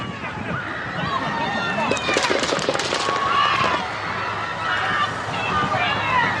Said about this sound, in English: people screaming he's got a gun, and shots are fired.